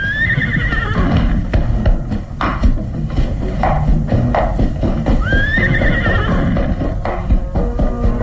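animal, horse neighing and hooves

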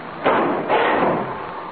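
household object, garage door being opened

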